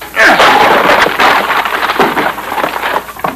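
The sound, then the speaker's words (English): A door is forced open with a sudden loud crashing burst, followed by several seconds of rough crackling and rattling debris that slowly tapers off, with no voices. “Well, stand back, Vitamin. I'm going to crack that door open.”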